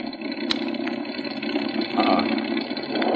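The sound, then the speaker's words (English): An aircraft piston engine runs steadily and loudly, its rough drone broken by irregular sputtering pops as it misfires badly. No voices are heard. “Engine missing badly.”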